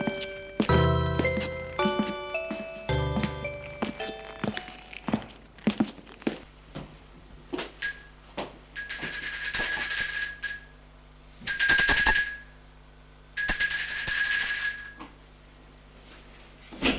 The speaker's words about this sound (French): Un matin, il va sonner à la porte de son médecin.